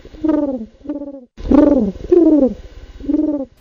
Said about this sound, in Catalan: Doncs sí, era el colom. Aquest animal sí que ens agrada a tots.